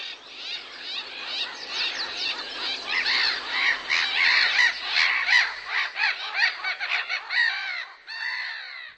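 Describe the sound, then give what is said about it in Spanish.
A swan calls repeatedly in harsh, honking squawks, a dense run of overlapping cries that stays loud for several seconds before thinning to a few last calls, with no talking. “Hemos escuchado el graznido de un cisne”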